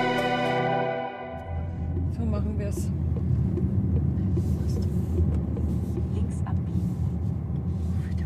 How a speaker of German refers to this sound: Sommer 2023. Wir sind im Auto unterwegs und fahren durch den Schwarzwald. Es ist angenehm warm, Bergidylle um uns rum und Nadelbäume säumen den Straßenrand.